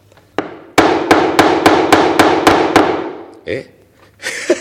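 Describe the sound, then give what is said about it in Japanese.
A hammer drives a nail into the base of a homemade rocket launch pad with a quick run of about nine sharp, evenly spaced, loud blows, followed by a couple of brief murmured voices. “あとはここ釘で、 釘で、 はい、 うわー、トンカチ使うの何年ぶりだろうね。”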